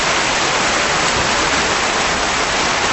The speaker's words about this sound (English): How about some applause? Thank you.